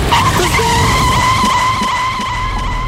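car skidding

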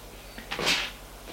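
door opening

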